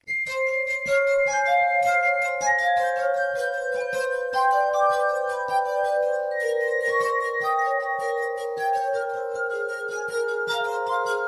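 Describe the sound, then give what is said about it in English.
Sustained, shimmering tones of a glass harp ring out as wine glasses are played by a duo, overlapping pure pitches forming a slow, continuous melody with faint clinking accents, steady throughout with no talking. “Which is fitting because a German physician discovered hypnosis by using the sound of the glass harp to heal his patients back in the 18th century.”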